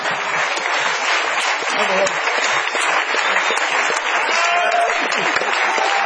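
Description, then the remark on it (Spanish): Sustained audience applause, a dense, steady clatter of many hands clapping at an even loudness for about six seconds with no break, likely with some voices mixed into the crowd noise. “Bueno, aplaudamos a papá.”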